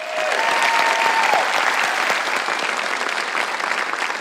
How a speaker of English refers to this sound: I want to encourage all of you, Purpose Church family, would you put your hands together and would you give a round of applause